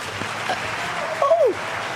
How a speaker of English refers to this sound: Where did the clapping come from? I've never had clapping before. So awesome. The crowd goes wild.